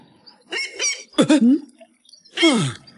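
A seagull squawks three times, loud, with harsh, honking calls separated by brief pauses and no talking around them.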